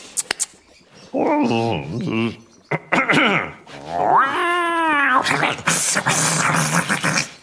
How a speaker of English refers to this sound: I've only got these lovely kitties.